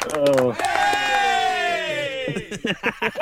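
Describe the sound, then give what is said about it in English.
A football crowd erupts at a second goal going in, a loud, sustained roar of voices that swells, holds for nearly two seconds and slowly sags, then breaks into choppy bursts of shouting and claps. “we've got audio of the second goal going in. I think we can hear you clapping.”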